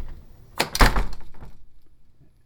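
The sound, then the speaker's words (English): A screen door is slammed shut hard to test an audio limiter, with a quick double bang, a light hit followed by a heavier clap, then a brief rattling decay into quiet. Loud, with no talking. “There are two doors, a screen door.”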